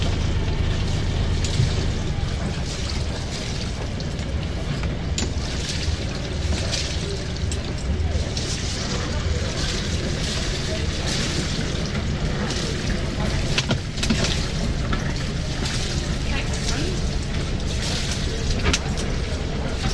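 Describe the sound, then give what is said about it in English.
A narrowboat's engine rumbles steadily as it edges into a canal lock, the last boat to squeeze in, with churning water, knocks against the walls and indistinct voices in the background. “Happy Afloat was the last boat to squeeze into the lock.”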